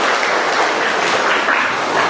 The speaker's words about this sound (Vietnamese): Chúng ta cho một tràng pháo tay để chúng ta chào những chứng nhân tối hôm nay.